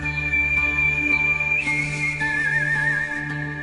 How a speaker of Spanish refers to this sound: un artista español famoso por su maravillosa forma de hacer música silbando.